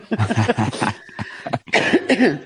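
cough

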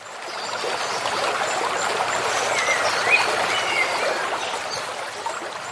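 rushing flood water

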